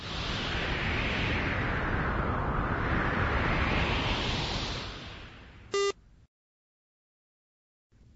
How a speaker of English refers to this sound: That's right. It's windy.